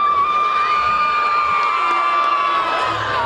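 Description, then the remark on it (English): A crowd of about 1,000 students at a school erupts in loud, sustained cheering as a girl about to be asked to prom emerges from the school, with high-pitched whoops and shouts layered over a dense, continuous roar of voices. “the girl he's about to ask to prom, eventually emerges from our school, the crowd explodes.”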